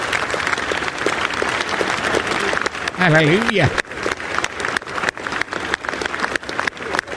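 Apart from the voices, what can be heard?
audience applause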